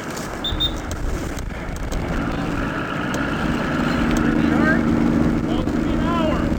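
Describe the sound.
A police divers' motorboat heading out on the Bay of Quinte to continue an investigation; its engine drones steadily, the low hum growing a little louder and more tonal partway through, with indistinct voices faintly in the background.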